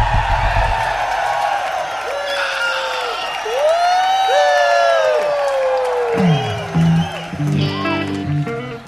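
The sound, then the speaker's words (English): A large concert crowd, with the show being cybercast on the Rolling Stone website's Jam TV, screams and cheers loudly and continuously, with high whoops and shrieks rising over a dense, sustained roar of voices. “Yeah, so scream real loud.”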